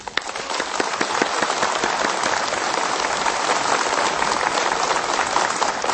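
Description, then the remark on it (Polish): A crowd at a Radio Maryja rosary gathering in the sanctuary of Our Lady of Tuchów in Tuchów, Poland, applauds the station's listeners loudly and steadily, a dense wash of many hands clapping that holds an even level from start to finish with no voices above it. “I dla nich ogromne i serdeczne oklaski.”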